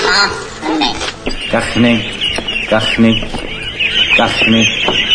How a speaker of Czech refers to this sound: Kachny.